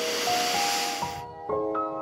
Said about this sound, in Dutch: Bomen met grote takken en grote blaadjes. En bomen met heel veel kleine blaadjes. Die allemaal wapperen in de wind. Hoor je de wind door de blaadjes gaan?